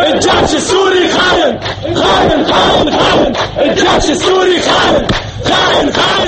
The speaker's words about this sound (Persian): در شهر حراک، دیگر شهر استان درعا، نیز مردم شعار مرگ نه ذلت سر دادند.